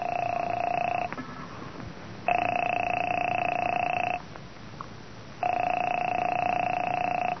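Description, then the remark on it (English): A telephone rings on the line, three long steady electronic rings separated by short silent pauses, loud as if heard through the receiver, with no voices; a call placed from a hotel. “Phone seemed to ring forever.”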